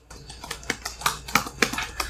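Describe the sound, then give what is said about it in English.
Keys clack on a computer keyboard in a quick, slightly uneven stream, roughly ten sharp strokes in about two seconds, moderately loud with no voices. “By the way, this part of the podcast brought to you by Typing Sounds.”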